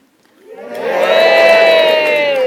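A crowd breaks into a practice cheer, rising from quiet over about a second to a loud, sustained roar of many voices with a few high, held shouts riding on top.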